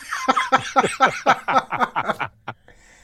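A rapid fit of about ten short coughs in quick succession, tapering off with one final hack, with no talking over them.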